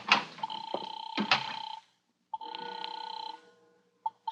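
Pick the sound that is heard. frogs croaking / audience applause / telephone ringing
telephone ringing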